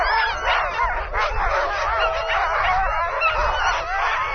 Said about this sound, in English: Sleds struggle to remain anchored to the frozen lake. Sled lines jerk and tighten as the dog teams bark and jump. They can't contain themselves. They need to run.